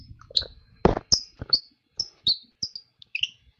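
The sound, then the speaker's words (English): A squeaky bird call made of a die-cast metal plug screwed into a birch wood piece chirps in a quick series of short, high, twittery squeaks, some doubled, with faint clicks and handling noise between them. “It came with a little pill full of rosin that you put on the metal part of the bird call when it doesn't make as much squeaky noises.”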